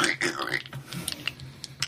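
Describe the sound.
A voice mimics tape being stuck on, starting with a rough, raspy stretch and breaking into scattered clicks and short crackling bursts, ending on a sharp burst.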